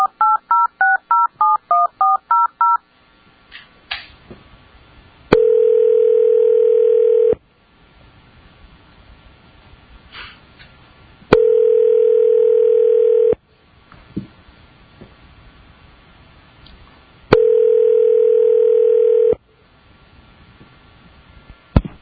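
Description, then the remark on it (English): A quick run of about a dozen touch-tone dialing beeps, then three long, steady telephone tones, each about two seconds, separated by quiet pauses with faint background noise. No one speaks. A phone call is being placed to a licensee during a board hearing. “I believe we're going to get the licensee on the phone.”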